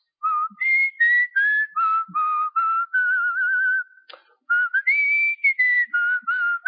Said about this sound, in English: one of us will be whistling something, the other one will kick right in.